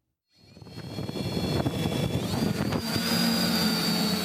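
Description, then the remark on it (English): A small drone's steady, high-pitched whir starts up and holds, its motor tone rising slightly partway through, fairly loud, with no voices. “It shouldn't take the whirring of a small drone to remind you that many people are awfully leery of these little aerial contraptions, fearing threats to privacy and also to airplanes.”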